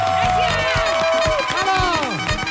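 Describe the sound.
Steady applause from the audience of the show APM welcoming a guest, with dense clapping filling the whole clip, mixed with cheering voices and rising and falling whoops and whistles over the top.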